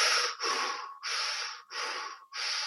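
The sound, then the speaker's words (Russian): Someone demonstrates forced, unnatural breathing: about five loud, hissy in-and-out breaths in a quick, steady rhythm, with only brief pauses between them and no talking. “И тут ты начинаешь дышать вот так.”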